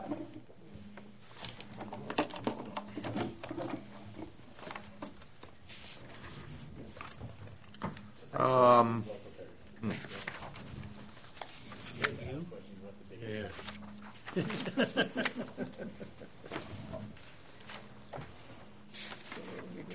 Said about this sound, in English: Your drawer is ringing. Vibrating.